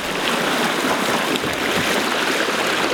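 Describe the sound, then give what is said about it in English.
A wooden pearl lugger, a two-masted boat about 20 metres long, races under sail through salt water, a steady, loud wash of hull noise and splashing spray filling the whole stretch without pause or voices. “The sound of an icon of the Torres Strait Islands in far north Queensland, under sail and racing through salt water.”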